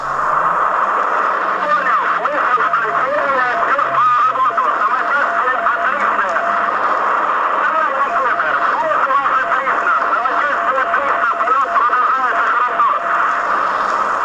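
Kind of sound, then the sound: signal or alarm, radio static crackle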